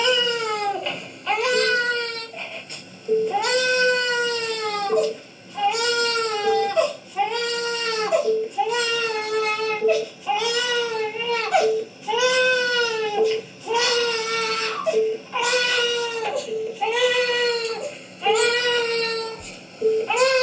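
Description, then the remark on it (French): A recorded infant cries loudly in a strikingly regular rhythm, each wailing burst followed by a brief gasp, repeating about a dozen times without pause and with no one talking. “Donc, ça veut dire que le bébé pleure. Là, on parle des pleurs.”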